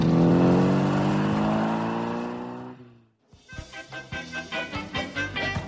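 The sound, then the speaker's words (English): A taxi's engine drones steadily, its pitch sliding down as it slows, then cuts briefly before a rougher, pulsing idle chugs on with rhythmic bursts. “Now this taxi, I'm being watched, I'm being followed.”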